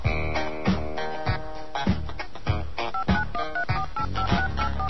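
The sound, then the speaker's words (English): A quick run of short touch-tone keypad beeps, digits of a prepaid card number being punched into a phone on a Sprint calling line, comes in over a steady rhythmic music bed during the second half, each tone brief and clear. “Please enter your prepaid card number.”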